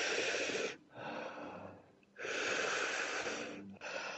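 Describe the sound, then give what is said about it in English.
Slow, gentle tantric breathing with long airy exhales alternating with softer inhales, about four breaths in a steady unhurried rhythm and no talking. “So you both will be breathing that way, nice and gentle.”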